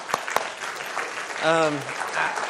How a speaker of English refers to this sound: And so just a round of applause for our people.